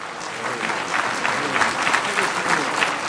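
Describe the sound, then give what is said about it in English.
Steady applause from an audience in the Security Council chamber, reacting to the French foreign minister, fills the whole clip, a dense patter of many hands clapping at once, fairly loud and even throughout, with a faint murmur of voices mixed in. “Council President Joschka Fischer of Germany silenced the applause with his gavel.”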